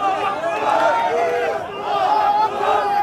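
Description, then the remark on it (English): A dense crowd of Palestinian protesters fills the scene with loud, overlapping raised voices and shouting, a continuous roar of many people with no single speaker standing out. “Crowds of Palestinians protested.”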